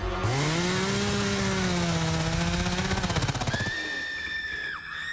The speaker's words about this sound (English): Nothing says fall like a chainsaw. Cutting down trees, raking leaves.